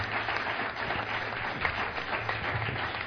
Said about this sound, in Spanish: Un aplauso para el Señor, hermano.